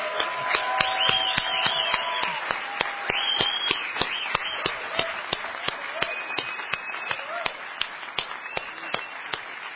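An audience at a computer hacker conference in Midtown Manhattan breaks into sustained applause, many hands clapping in a dense, steady patter that holds for about ten seconds, with a few sharper individual claps standing out.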